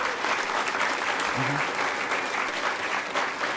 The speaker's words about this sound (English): Could we get a huge round of applause for all of the vendors who are on the second floor this year?